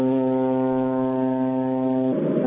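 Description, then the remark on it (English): The horn of a ship approaching Osaka sounds: a deep, loud blare in one long, steady low-pitched tone with rich harmonics, then breaking into a rougher, noisier burst near the end. “That's basically saying, I'm here, I'm approaching Osaka, get out of my way.”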